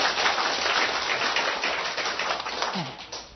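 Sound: audience applause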